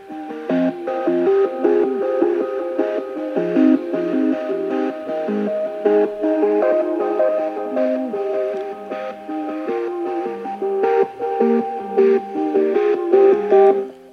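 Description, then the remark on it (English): Music plays continuously through an Echo 4th generation smart speaker, steady and moderately loud, with layered tones and a slightly compressed, boxy quality. No one talks over it. “If I put my hand on the speaker, I can really feel the speaker vibrating.”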